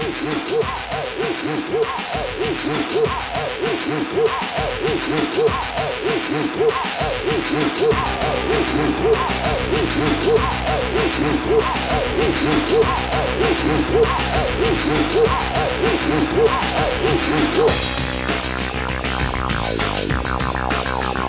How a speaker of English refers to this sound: We got to level like this with the upbeat tempo. Upbeat tempo, whistle massive, blow, blow, blow, blow, blow, blow, blow, blow, blow, blow.